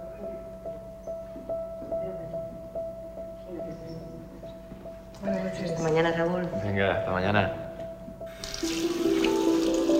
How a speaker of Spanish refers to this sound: Irene se lava la cara en los servicios.